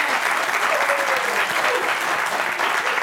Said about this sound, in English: All right, take everybody applauding here.